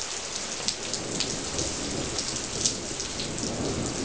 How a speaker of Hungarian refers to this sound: Útközben ért az eső, ne viccelj.